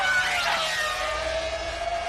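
The engine of Fernando Alonso's Renault Formula 1 racing car wails at a loud, high pitch, its shrill tone sweeping up and down as it revs for about two seconds, with no voices.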